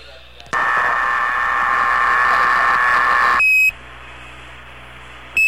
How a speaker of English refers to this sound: The alarm clock just went off, gentlemen. Roger, I thought I heard a buzzer buzzing there.